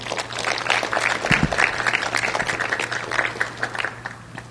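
A crowd applauds itself for being there tonight, steadily for several seconds, a dense, even wash of many hands clapping at once with no voices over it, holding at a fairly constant loudness with a low electrical hum underneath.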